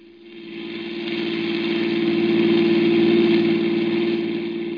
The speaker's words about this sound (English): got into my car, and headed out of the city.